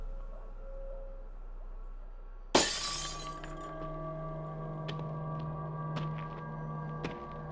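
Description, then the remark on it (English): A low steady hum, then a kitchen window pane is smashed in one sudden loud crash to get into a house. Ringing tones linger afterward while a few scattered shards tinkle down. No one speaks. “There, we can get in through the kitchen window.”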